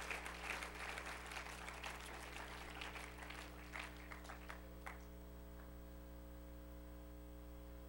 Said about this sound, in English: Let's give God a hand clap of praise for his word. Hallelujah, Jesus.